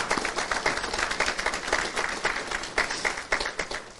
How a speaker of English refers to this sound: You can clap again. Praise the Lord.